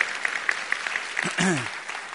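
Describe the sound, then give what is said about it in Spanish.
A church audience applauds the Lord at the end of a sermon in a steady wash of dense clapping, with brief voices rising over it partway through. “Si Dios le habló en ese día, denle un aplauso al Señor que se lo merece.”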